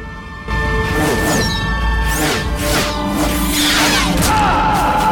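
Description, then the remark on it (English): After a brief silent moment, a loud roar of limestone rubble crashing down bursts in and keeps tumbling and clattering for several seconds without letting up. “Madge and Gisborne bend over and lock arms, and Robin climbs on top of them, struggling to see through the torrent of limestone that's raining down on them.”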